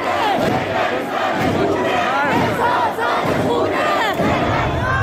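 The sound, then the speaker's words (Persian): A large crowd inside a Tehran metro in Iran chants slogans of the recent protests in unison, many voices shouting together in a steady, loud rhythm that continues without a break for the whole stretch. “در نوار دیگر زنی در داخل مترو نمایان می شود که حجابش را آتش زده، ازدحام بزرگ شعار اعتراضهای اخیر را تکرار می نماید.”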